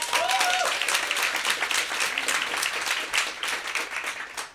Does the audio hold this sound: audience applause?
yes